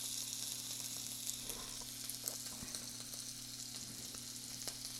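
butter sizzling

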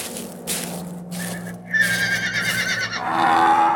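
horse neighing

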